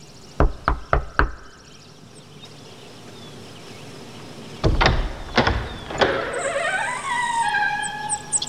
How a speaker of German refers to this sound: klopfte an der Tür und der Regisseur öffnete.